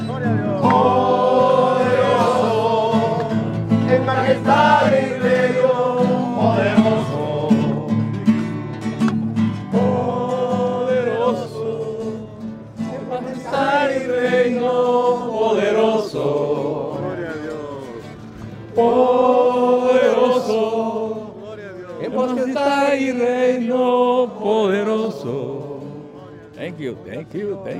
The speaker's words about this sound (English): You got the Spanish-speaking church over in the corner of the yard, and they're singing and clapping.